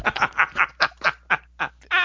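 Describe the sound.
A voice imitates a clucking chicken, producing a quick, rhythmic run of about nine short, nasal bursts, fairly loud, with no ordinary speech alongside.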